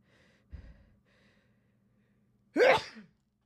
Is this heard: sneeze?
yes